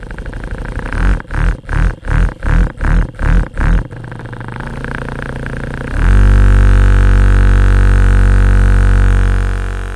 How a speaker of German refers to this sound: Ein Rasenmäher? Ein elektrischer Rasierer oder doch irgendein Küchengerät? Nein. Es ist dein Vibrator.